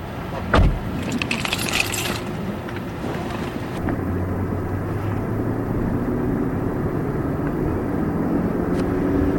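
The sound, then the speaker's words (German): A heavy pickup truck's engine drones steadily on increasingly bumpy farm tracks toward Hopi fields, with rattling and clanking from loose metal, a sharp thump early on, and a continuous low rumble as it rolls over rough ground. “Fast eine halbe Stunde fahren wir mit einem schweren Pickup-Lastwagen auf zunehmend holprigeren Feldwegen.”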